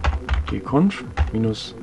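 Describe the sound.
Rapid clicking of keys on a computer keyboard as someone types the search term gconf-editor into a software installer on Fedora Core 5, with a voice speaking over the typing through most of the moment.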